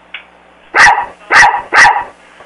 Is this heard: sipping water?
no